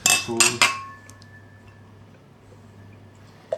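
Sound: glasses clinking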